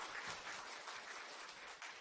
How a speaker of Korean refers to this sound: 모두 축하, 박수로 축하해 주시기 바랍니다.